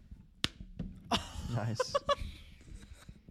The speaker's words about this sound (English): Do you have a laughing track? Let me slap the knee real quick.